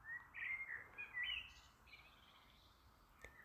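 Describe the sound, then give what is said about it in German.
Small birds chirp and twitter all around at sunset in quick, high bursts over a quiet outdoor background, the calls fairly soft, tapering off toward the end. “Die Vögelchen zwitschern rundherum.”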